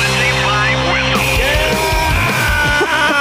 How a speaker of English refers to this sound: Why are you yelling?